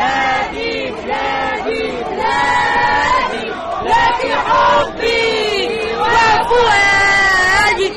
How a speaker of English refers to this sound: A large crowd of men chanted against women's calls for equality, telling the women to go home, saying they have no place in politics.